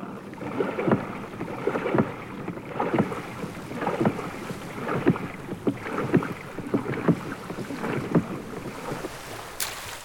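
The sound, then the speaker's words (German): A rowing boat moves a short way across a lake before a fishing net is cast again, oars dipping and splashing in a steady rhythm roughly once a second, with water lapping against the hull and light wind in the background; no one speaks. “Weit fahren sie nicht. Schon werfen sie das Netz wieder ins Wasser.”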